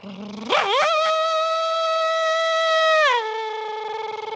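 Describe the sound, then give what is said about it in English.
A voice imitates a racing car engine starting up: a low hum sweeps up into a loud, steady high whine, then drops in pitch into a stuttering, pulsing drone, like traction control cutting in. “Sound like traction control kicked in halfway through that.”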